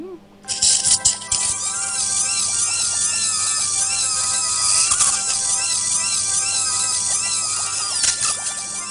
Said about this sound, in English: Almost absurdly calm as the doctor drilled and poked and prodded.